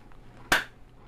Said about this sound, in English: It's just things that we could sync up the audio to. Clap sync.